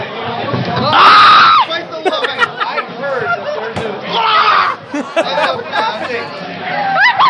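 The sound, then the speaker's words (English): A man lets out a loud, strained scream over excited chatter after taking a tequila shot with salt for the first time, then another shorter yell a few seconds later, raucous, with voices talking throughout. “So you take a shot and you just start screaming.”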